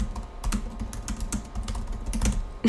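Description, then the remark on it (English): Rapid, irregular clicks of keys as a note is typed on a keyboard, a steady patter of light taps with a few sharper strokes, heard on its own with no talking. “That's what I should write down. I'm gonna write that down.”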